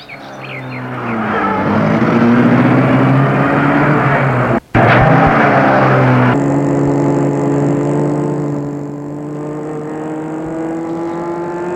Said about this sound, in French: Il la fait entrer, entre, et met la voiture en route.